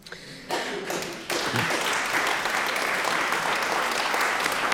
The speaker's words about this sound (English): I like that round of applause. It was like, that sounded like it needed one, but we're not sure whether we agree with him.